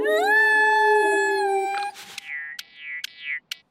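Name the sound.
dog howling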